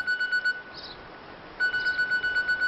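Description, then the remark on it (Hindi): A telephone rings with an electronic trilling tone in two bursts separated by a short pause, fairly loud, with no voices. “ये देखा, ये देखिए, खुद ही उन्होंने फोन कर लिया।”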